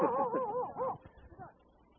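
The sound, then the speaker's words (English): A dog barks several times in quick succession, then gives one fainter bark before things go quiet. “Oops, there's your dog.”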